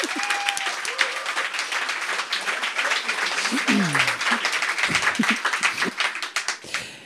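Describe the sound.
An audience applauds steadily for several seconds, a dense crackle of many hands clapping at even loudness, with a few faint voices and whoops rising underneath.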